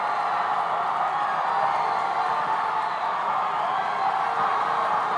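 A church audience shouts and cheers to praise the Lord in a continuous, loud roar of many voices that holds steady for several seconds without letting up.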